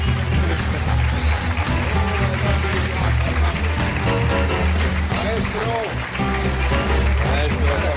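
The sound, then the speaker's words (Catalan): Loud, sustained applause as Andreu Buenafuente is called up onto the stage, a dense steady roar of clapping with crowd voices mixed in and a low, droning undertone beneath it. “Demano un fort aplaudiment i que pugi Andreu Buenafuente.”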